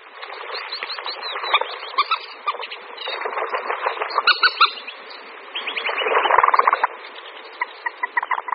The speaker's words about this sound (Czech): Slípka zelenonohá patří k těm nemnoha ptačím druhům, podle jejich života bychom mohli sepsat téměř celou knihu různých typů partnerských svazků.